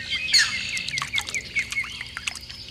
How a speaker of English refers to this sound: This week, those croak and splash sounds introduce a wetland bird that's fairly common but not very obvious, is a slow, methodical hunter, and drastically changes color between its juvenile and adult stages.